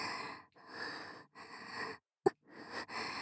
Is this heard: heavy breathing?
yes